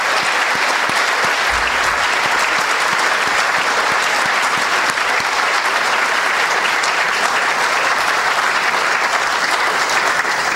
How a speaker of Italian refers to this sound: Non sarà facile, per lui subentrare a una serie di incontri, quindi vi chiedo di accoglierlo fin da stasera con tanto affetto, vi facciamo già un applauso di benvenuto, che lo incoraggi.